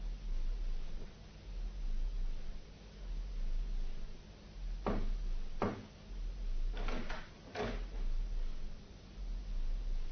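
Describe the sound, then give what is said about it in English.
Over a steady low hum, two sharp thuds like footsteps land a second apart as someone comes to the front door, followed by a quick cluster of clicks and clunks as the door latch rattles and the front door opens. “Footsteps. Someone's coming to the front door.”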